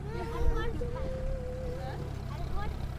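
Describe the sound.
A tractor full of gifts and people rumbles steadily and low throughout as it heads back to the Hogar, with people's voices chattering over the continuous drone.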